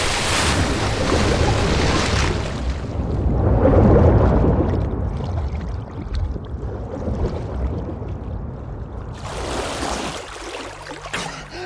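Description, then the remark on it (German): A heavy splash as someone plunges into black sea water, giving way to loud churning and rushing, swelling midway, then a second surge of spray before fading into a low, muffled underwater rumble. No voices. “Dann verschlingt mich das schwarze Wasser.”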